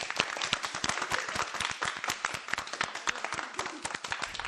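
An audience applauds steadily, many hands clapping in a dense, continuous patter that stays fairly loud and even throughout, with no voices standing out.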